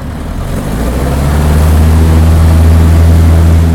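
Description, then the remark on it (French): A seaplane's propeller engine roars at full throttle for takeoff from a lake, its loud steady drone swelling over the first couple of seconds and then holding strong, with no voices. “Le moteur au décollage est lancé à plein régime.”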